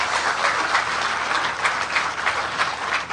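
A crowd applauds steadily, a dense, even wash of many hands clapping at once, holding a fairly constant loudness throughout with no voices breaking through.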